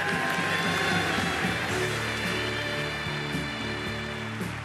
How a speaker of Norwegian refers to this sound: Sånn her hørtes det ut når Manchester United sin tidligere trener Louis van Gaal holdt tale på klubbens sesongavslutning her i gang. I have seen a lady who plays the saxophone fantastically. Give her a big applause!